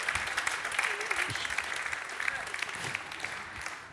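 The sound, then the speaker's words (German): Steady applause from an audience fills the whole stretch, a dense crackle of many hands clapping at once, fairly loud and continuous with a faint voice or two underneath. “Applaus.”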